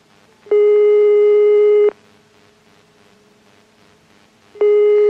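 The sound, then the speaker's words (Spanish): A telephone ringback tone sounds twice during a call to a randomly chosen home, each steady, buzzy tone lasting over a second and separated by a long pause, clear, with no one answering or speaking. “Vamos a esperar dos tonos más.”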